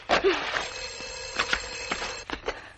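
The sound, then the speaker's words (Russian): A telephone rings with a steady electronic trill lasting a couple of seconds, mixed with scattered knocks and rustling handling noises. No one speaks. “Алло. Телефона.”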